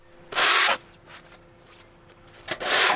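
Snow being shoveled off a car: two loud, harsh scraping strokes, one near the start and one at the end, with softer brief scrapes between them and no voices.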